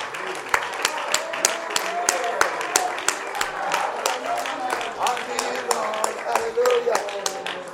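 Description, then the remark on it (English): An audience claps steadily for several seconds as a praise offering to the Lord, a dense wash of overlapping hand claps with sharp individual claps popping out, while voices call out and murmur beneath the applause. “Would you clap to the Lord a praise offering unto him?”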